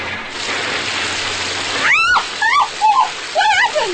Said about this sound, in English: You hit a water pipe. What do you mean I hit a water pipe?